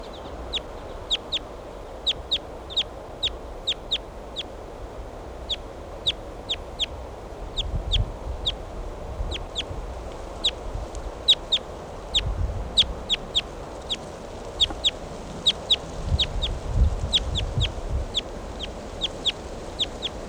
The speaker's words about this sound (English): Recording the wild bird. Wild bird.